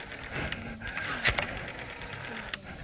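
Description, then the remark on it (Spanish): An old telephone with sticking buttons being dialed to call the Comisaría Primera de Moreno police station: a steady mechanical whirring and rattling with several sharp clicks, one louder snap partway through, and no voices. “Agarramos el teléfono. Anda medio mal el teléfono, se traban los botones, pero bueno.”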